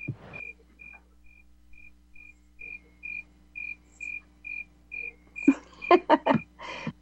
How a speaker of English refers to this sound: Yeah, hush, crickets. Supposed to mean that things are boring, right? They really are loud, but it's when it gets hot in the daytime, they do that really loud. At night, they like fiddle their legs together like grasshoppers do